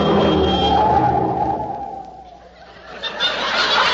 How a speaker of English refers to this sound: Willie, get out of the road. A car's coming.